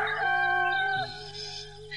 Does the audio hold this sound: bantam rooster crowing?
yes